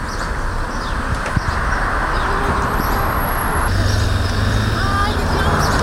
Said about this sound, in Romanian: Ah, Acum urcăm în autobuz, vreau să văd cât e de greu.